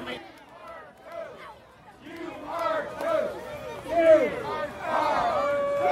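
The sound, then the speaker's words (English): A large stadium crowd at a ballpark cheers for the home team, voices overlapping in a dense roar of shouts and yells, growing louder after the first couple of seconds and staying loud and excited to the end. “And leading cheers for the home team.”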